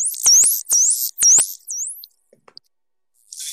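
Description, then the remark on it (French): Dolphin vocalizations separated from a mixture by a neural network model: a quick run of four high, looping whistles with sharp clicks, then near silence with faint ticks before a short hiss at the end. “Mais c'est vrai que si ça ne semblait pas complètement dingue avec les chiens, c'est déjà plus impressionnant avec les dauphins.”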